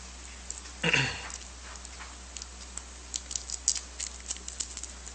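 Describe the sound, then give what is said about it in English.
A brief burst of crinkling paper, followed by a series of small, sparse crackles and ticks as the paper wrapper of a cough drop long carried in a pocket is fiddled with. No one speaks. “While he gets that up there, I'll try to get a cough drop open here to put in my mouth.”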